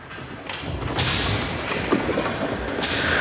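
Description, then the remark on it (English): Sharp cracking strikes of guards' whips lashing workers and of pickaxes hitting rock ring out irregularly over a dense, rumbling background of steady digging with pickaxes and shovels and clatter, in a cavern as a path is dug upward through the solid rock roof. “In a cavern, a group of underworlders work with pickaxes and shovels. Guards lash them with whips as they dig a path upward through the solid rock roof.”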